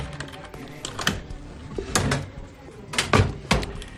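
A locker door at a building entrance is handled and shut after a mobile phone is deposited inside: a series of sharp metallic clacks and clicks, with several louder bangs spaced irregularly over a few seconds, amid faint background rustle.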